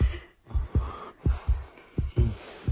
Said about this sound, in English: Just thinking about him now is making her heartbeat quicken.